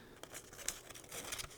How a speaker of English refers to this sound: reach into my hat and pull out one piece of paper. Don't peek.